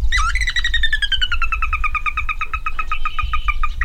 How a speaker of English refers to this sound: The tiny, spindly-legged sora weaves through the reeds and calls back.